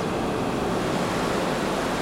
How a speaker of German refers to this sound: Am Black Johnson Beach, etwa eine Stunde von Freetown entfernt, hört man nichts als die Wellen, die sanft auf den goldenen Strand gleiten.